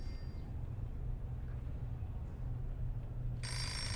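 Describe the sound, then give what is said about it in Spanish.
A steady low hum fills the background, then a telephone abruptly starts ringing near the end, a bright, loud, buzzing ring that cuts in sharply. No one speaks. “No contestes ahora.”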